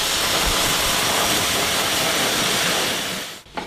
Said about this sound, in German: Okay. Ich schmeiß mal kurz den Föhn an.